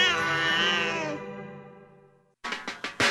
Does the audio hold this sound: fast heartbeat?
no